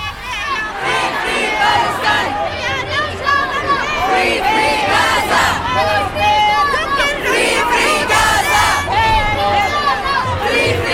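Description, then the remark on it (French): A crowd of 25,000 to 40,000 people at a pro-Palestine rally at Schuman in Brussels fills the scene with continuous loud hubbub, shouts and calls overlapping in a dense, steady roar, with rising cries suggesting collective chanting. “Hier, en tout cas, la reporter du Canu Info du lundi était à Bruxelles, où entre 25 000 et 40 000 personnes s'étaient rassemblées. On les écoute.”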